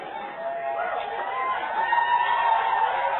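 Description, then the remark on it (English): An audience at a church gathering breaks into steady applause celebrating new home group plants, a dense, continuous wash of clapping with a faint crowd murmur mixed in, holding at an even level for about three seconds without any speech. “Now, why did they clap when I mentioned that about them, but you didn't clap when I mentioned about your home group plan?”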